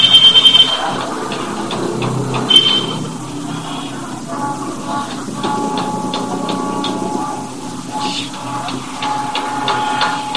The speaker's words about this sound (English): Picking up other sounds? That's the bell. Sorry.